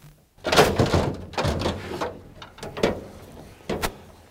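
A truck door handled and shut as a man gets out of his truck on arriving at a bear trap: a run of heavy mechanical clunks and latch rattles, then a couple of sharper thuds toward the end, with no voices.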